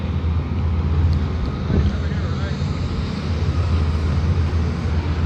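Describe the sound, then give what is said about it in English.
A steady, loud low-pitched rumble of a bunch of big trucks coming up a road, their engines droning continuously with a broad roar and some wind buffeting. “I got a bunch of big trucks up here coming up.”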